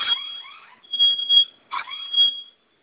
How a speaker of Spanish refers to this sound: Sonó su alarma y vamos a registrar su clave nueva.